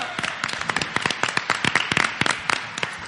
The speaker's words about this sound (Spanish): ¡Un aplauso!